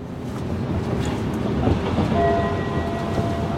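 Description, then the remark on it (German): A subway train rumbles loudly and steadily through Hallisches Tor station, its low mechanical roar joined partway through by a faint high steady whine, with no voices present. “Hallisches Tor. Übergang zur U-Bahn-Linie um 6.”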